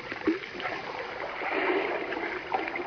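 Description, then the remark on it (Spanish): A child scoops up sea water in his hands at the seashore, with gentle splashing and trickling that swells slightly midway, a few small splashes standing out, at moderate volume. “El niño tomó un poco de agua en sus manos y dijo, el mar es transparente como el cristal.”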